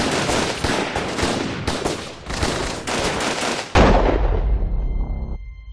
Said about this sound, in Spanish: de forma imprevista, con frialdad y serenidad, conscientes de lo que hacían, José Fernández Cerrá y Carlos García Juliá comenzaron repentinamente a disparar en trayectoria cruzada, de forma indiscriminada, a una distancia de unos 60 centímetros.